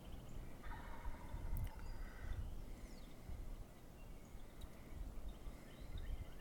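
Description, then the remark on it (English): A wild turkey gobbler roaming about looking for a hen lets out one rattling gobble early on, faint, over steady low outdoor rumble and breeze. No one speaks. “Gobblers will get it in their head to do a walkabout.”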